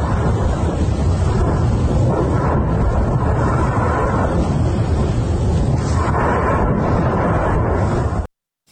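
A large explosion at the port in Berdyansk, where a ship had docked, recorded by an eyewitness, heard as a loud, sustained rumbling roar with heavy low booming and wind buffeting the microphone, lasting about eight seconds before cutting off abruptly. No one speaks.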